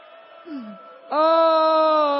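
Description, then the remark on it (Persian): A person mimics a crying child: a brief whimpering dip, then a loud, sustained wailing cry held steadily to the end, alone with no talk. “چند تا چیز از بچه یاد بگیر، وقتی چیزی رو دیر بهش میدن داد میزنه گریه میکنه، مادر زود میدوه بغلش میکنه.”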